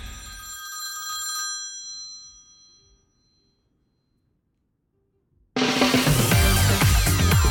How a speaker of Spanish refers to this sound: A ver, que yo estoy escuchando aquí el teléfono, pero que no.